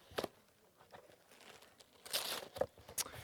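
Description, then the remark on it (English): Crinkly paper rustles and tears in a string of sharp, uneven bursts as a wrapped package holding a crunchy bar, a peanut slab and a Kinder Surprise is pulled open, with louder crackling tears near the end and no voices. “Well, we'll have to open it up and see, won't we? What do we have in my lovely wrapped package?”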